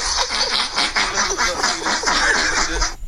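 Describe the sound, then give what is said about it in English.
A woman's long fart as she tries to run into the house to go to the bathroom, sputtering in rapid, rhythmic bursts, uncannily like someone snickering or quacking, loud and steady for about three seconds before cutting off. “Almost like she was laughing. She was. From her bottom.”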